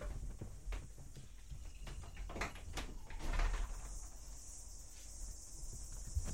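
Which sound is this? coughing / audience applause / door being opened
door being opened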